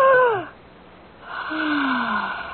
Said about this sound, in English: She gasped twice there on my sofa. Then a long, deep sigh. And she was dead.